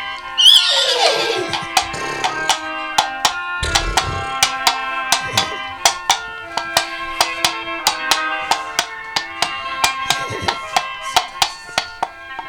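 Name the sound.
horse neighing and galloping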